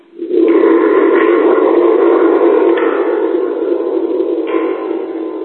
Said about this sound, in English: Here's a musical instrument that I have that kind of replicates that sound, although there is no real replication of that sound. This is kind of a Pong sound right here.